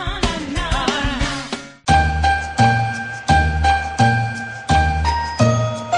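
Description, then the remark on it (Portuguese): After a brief jangling flourish, a bell rings out in steady, evenly spaced strikes, about seven in all, each loud and ringing on before the next. No one speaks. “O sino bateu, a canção nos revela que Cristo nasceu.”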